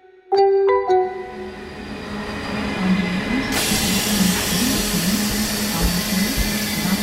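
A train pulls into Zurich Hauptbahnhof, the biggest train station in Switzerland: a few short, bright tonal notes open, then a steady, loud rumble and hiss of the train rolls on with a faint low whine beneath.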